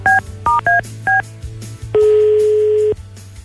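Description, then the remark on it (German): Four quick touch-tone keypad beeps in an uneven sequence as a telephone number is dialed, followed by a single longer steady phone tone lasting about a second, clear over a low background hum. “Silvia, wir rufen sie mal an”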